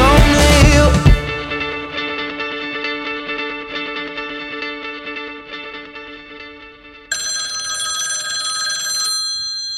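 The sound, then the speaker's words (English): A loud telephone bell rings on its own, opening with a harsh burst and sustaining a bright, processed-sounding tone that shifts higher near the end before stopping abruptly. “That ringing in your ears tells me that I've got some more really important and interesting information to pass on.”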